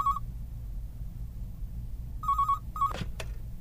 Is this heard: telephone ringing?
yes